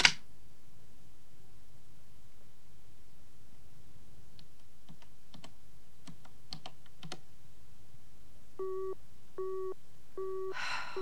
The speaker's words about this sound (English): What's the problem? The line's engaged.